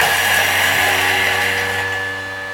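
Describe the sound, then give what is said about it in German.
A Thermomix food processor motor whirs loudly at high speed (speed level 8) for about three seconds, a steady dense roar with a high tonal whine, easing off slightly at the end. No one speaks. “Halt mal ganz kurz den Gedanken an, weil ich muss hier einmal den Thermomix anmachen.”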